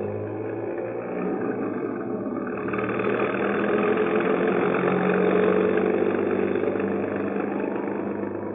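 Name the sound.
bus engine running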